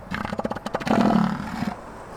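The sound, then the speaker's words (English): A deep, rough bellowing call from a large elephant seal bull on a Southern Ocean beach, starting with a rapid series of pulsed throaty bursts and swelling into a loud, sustained guttural roar that trails off. “Or possibly that really good assertive call will end it all right there.”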